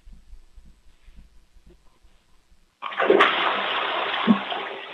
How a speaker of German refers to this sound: Wow, das ist ja eine tolle, laute Klospülung